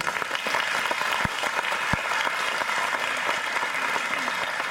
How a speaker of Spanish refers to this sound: Le damos la gloria al Señor y un aplauso para ellos.